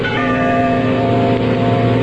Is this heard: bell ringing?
yes